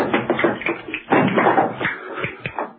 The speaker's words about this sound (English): John Steed entered the room from the kitchen, clicking a pair of castanets. He stopped in front of Mrs. Peel with a sharp rap of his heels and presented her with a rose.